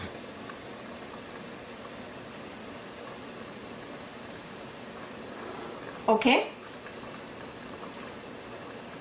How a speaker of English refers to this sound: now if you see, it is really coming to a good boil, especially on this end here, you can tell. So that is perfect.